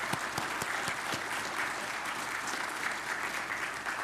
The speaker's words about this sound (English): And let's go ahead and give her a round of applause.